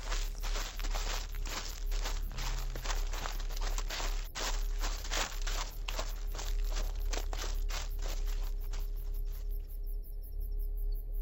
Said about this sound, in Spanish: Cuando llegaron a la carpa, Nora se inclinó y con temblor en sus manos abrió completamente la cremallera